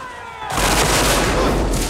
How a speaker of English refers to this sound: Cannons blast into the troops, flinging them off their feet.